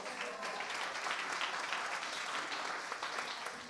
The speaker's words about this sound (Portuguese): Arrasou, palmas.